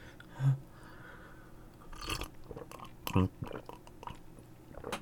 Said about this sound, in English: Let me have a sip of this beverage.